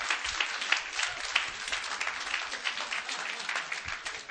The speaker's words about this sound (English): Can you say amen? Come on, clap your hands in it.